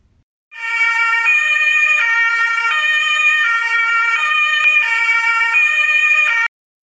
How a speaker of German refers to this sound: Wenn wir jetzt wieder zurück zum Krankenwagen gehen und dieser die Sirene anmacht, gehen von seiner Sirene die Schallwellen in alle Richtungen aus. Die Schallwellen gehen in jede Richtung mit der gleichen Geschwindigkeit vom Krankenwagen weg.